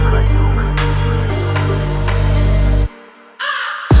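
A few harsh crow caws ring out over a loud, droning electronic music bed with a rising whoosh, then the music cuts out abruptly before brief bursts return.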